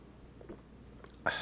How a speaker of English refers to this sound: I'll take a sip of this Diet Mountain Dew, wait for you, and then we'll get into it.